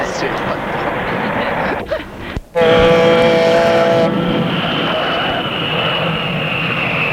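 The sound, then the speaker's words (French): A loud, steady jet roar fills the scene, with a high whining engine tone rising after a brief dip, as an airplane lands. “L'avion est en train d'atterrir.”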